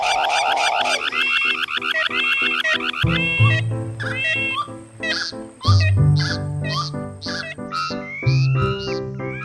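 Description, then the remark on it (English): A musical piece by an artist built from car alarm sounds: layered electronic warbles, chirps and rising sweeps repeat in quick rhythmic patterns over a steady low droning tone, loud and busy throughout, with no talking. “That was artist … and her car alarms.”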